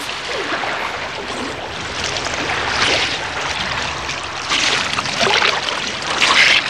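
Water splashes and churns steadily around a small boat, a broad hissing wash with a few louder surges toward the end, with no voices.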